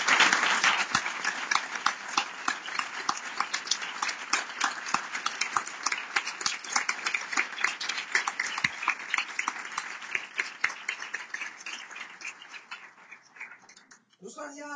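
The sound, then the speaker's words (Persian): A crowd applauds itself steadily for several seconds, a dense wash of many hands clapping that tapers off near the end. “یه تشویق خودتون رو بکنید.”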